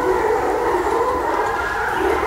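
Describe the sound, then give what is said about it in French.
A pack of hunting dogs bays and howls while chasing game among trees, in a continuous, overlapping chorus, sustained and fairly loud, with no talking over it. “Les chiens sont là. Ils sont en train de chasser les chiens. Vous entendez?”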